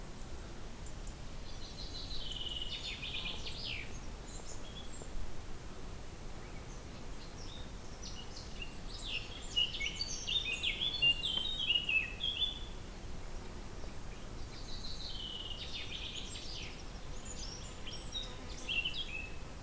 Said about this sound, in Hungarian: Monok felé tartunk, hát sokat kellett kacskaringóznunk, aztán végül is egy erdőbe jöttünk be, most légvonalban, 2 kilométeren belül vagyunk, és nagyon jó itt az erdőben, és hallgatni a madarak csicsergését.